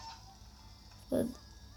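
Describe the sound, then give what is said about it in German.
A single short, loud squawk of a chicken in a video game as it pushes the player's character away, a sharp honking cluck that rises out of a quiet background hum and cuts off quickly. No one speaks. “Dann werde ich weggeschoben von dem Huhn.”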